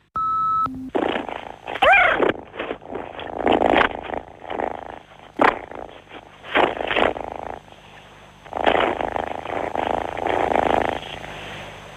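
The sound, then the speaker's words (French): A small pet cat named Ulysse purrs loudly in steady rhythmic pulses for several seconds, following a brief electronic beep at the start; no one speaks. “Voilà, c'est mon petit chat. Je ne sais pas si vous l'avez bien entendu, mais c'est mon petit chat Ulysse.”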